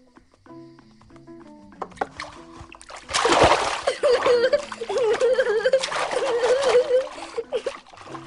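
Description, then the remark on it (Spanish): Water splashes and sloshes in repeated bursts as a child washes himself, after a few soft musical notes, with a faint vocal tone drifting under the splashing. “Un niño que se da a luz solo, se lava solo.”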